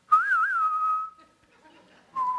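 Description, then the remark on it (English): Someone whistles the famous western standoff whistle from the film The Good, the Bad and the Ugly: a quick warbling figure slides into a long held note that fades out, then a new sustained whistled note begins after a short pause. “It also, to me, feels like that scene in The Good and the Bad and the Ugly with the end, where the three are standing together with their kind of hands on their guns, and you hear that famous whistle.”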